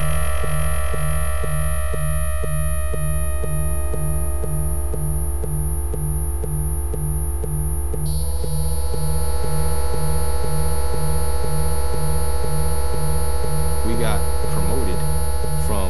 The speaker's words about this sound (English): a clever piece of equipment that blasts out a mosquito noise that only youngsters can hear